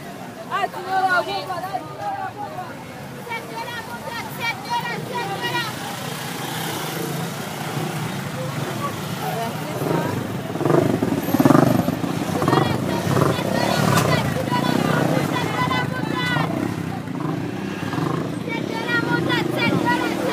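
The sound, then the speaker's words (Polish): A dense, noisy crowd scene with overlapping voices and chatter, engines rumbling and revving, and a constant busy din of a crowded street market with traffic in the centre of Haiti. “Proszę Państwa, jesteśmy na targu w samym centrum Haiti i no cóż, ludzie są bardzo niezwykli i oczywiście jest bardzo dużo wudu.”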